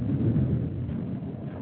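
A deep, continuous rumble of thunder rolls steadily for the whole moment, loud, with a faint hiss like rain underneath and no voices.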